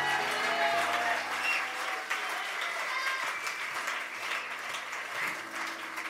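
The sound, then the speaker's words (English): A crowd claps steadily for about six seconds, a dense, even wash of many hands with no single beats standing out, and faint murmuring voices underneath. “Somebody clap your hands and give the Lord.”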